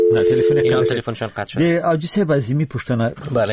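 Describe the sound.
A steady telephone tone hums for about a second at the start, then cuts off as a distorted, phone-quality voice takes over and keeps talking, on a listener call to Radio Azadi with a faulty phone line.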